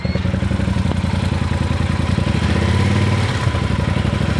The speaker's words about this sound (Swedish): Ska vi lyssna på dig då Malin när du brassar iväg här på den tunga stora hojen? Ja, den här är inte att leka med.